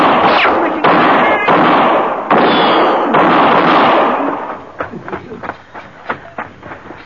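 A burst of gunfire in a shootout: several loud, sharp cracks with long echoing tails, then a quicker scatter of smaller, quieter shots trailing off, with no talking.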